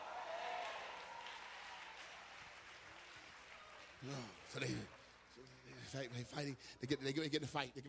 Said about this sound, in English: Now clap your hands and say glory to that.